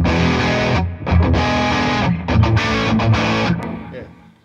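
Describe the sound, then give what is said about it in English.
Loud, heavily distorted electric guitar chords played through a Plextortion distortion pedal chug in thick bursts separated by brief stops, with the last chord ringing out and fading away. “So if you want any of those tones, all you need to do is get a Plextortion and...”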